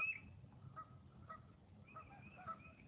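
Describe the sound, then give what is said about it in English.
Birds, including a titmouse, chirping outdoors in nature on a beautiful day, scattered short calls repeating every half second or so, soft over a low rumbling background, with no one talking. “Just listen to the birds.”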